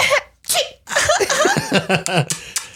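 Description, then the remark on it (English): A person lets out a string of loud, sneeze-like bursts: sharp breathy blasts mixed with strained, voiced sounds, coming in quick succession as if imitating or forcing a sneeze. “I feel like I'm going to sneeze.”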